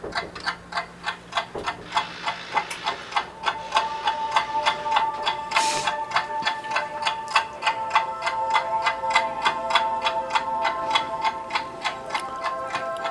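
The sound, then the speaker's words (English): A steady, evenly spaced clock ticking runs throughout, crisp, joined partway by sustained tonal synth notes and a brief whoosh, with no voices. “Yeah, neat sound effect. The patch there, the clock, and then the synth.”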